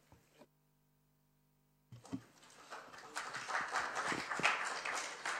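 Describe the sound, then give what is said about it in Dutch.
After a short near-silent pause, an audience breaks into applause for a speaker who has finished a presentation, a dense crackle of many hands clapping that swells over a few seconds and holds steady, fairly loud, with no talking over it. “Nou, u krijgt zelfs applaus, dank u wel.”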